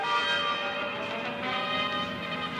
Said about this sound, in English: Get those bells.